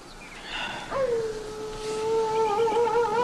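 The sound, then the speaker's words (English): A single long wolf howl, not too far off, rises and then holds a steady, wavering tone for a couple of seconds over a low background hiss. “You know, he doesn't sound too far off.”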